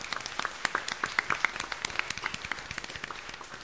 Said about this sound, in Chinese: 掌声将荣耀归给上帝。